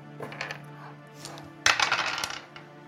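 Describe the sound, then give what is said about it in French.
Dice are rolled for a reflex roll in a game, striking a hard surface with a sudden sharp clatter that rattles and tumbles for about a second before settling. Softer scattered clicks come before it, and no one speaks. “On va faire un jet de réflexe.”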